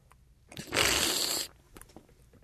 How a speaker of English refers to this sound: Okay, the next thing that you're going to do is slurp it. That is, take it in your mouth, draw some air over it, and that opens up the flavors. Okay, here we go.